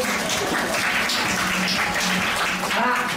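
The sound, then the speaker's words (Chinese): A class of students applauds themselves and the classmates beside them, a dense, steady wash of clapping that keeps up at full strength for about three seconds, with a few voices mixed in. “那给自己、给旁边同学一个热情掌声。”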